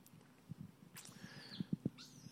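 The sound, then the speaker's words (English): A bird calls with a few sweeping, whistle-like notes over a background of low, irregular thumps and soft rumble. No one speaks. “That's a cool bird, by the way.”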